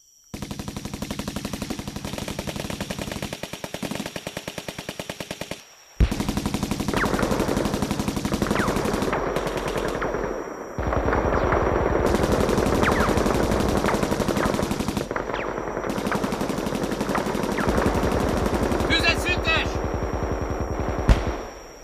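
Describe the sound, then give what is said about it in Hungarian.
Repeated short bursts of automatic rifle fire crackle continuously, several weapons firing at once on command at a temporary fortification about 120–150 metres away, in a dense, loud volley with brief pauses between stretches, with faint shouting voices mixed in. “Sorozatlövőknek rövid sorozatok! RPG-nek egyes lövés! Tűz!”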